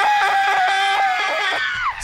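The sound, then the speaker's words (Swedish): A loud, high-pitched scream lasting about two seconds, wavering slightly and trailing off at the end, alone with no talk. It sounds like a person acting out a startled shriek when a hand is placed gently on their back. “skriker. Spänd som en jävla fjolstryck.”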